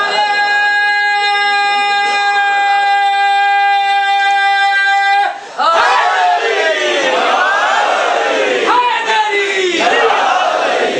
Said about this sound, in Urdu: یہ تیرا کا لگتا یہ ہے کہ اس مجلس میں نعرے لگوانے کی ذمہ داری صرف اس ملنگ نے لے رکھی.